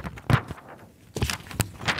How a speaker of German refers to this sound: Beim Relaunch der Zeitschrift des ADAC lässt sich ein ähnlicher Vergleichstest machen. So klingt die aktuelle Ausgabe der Motorwelt beim Umblättern.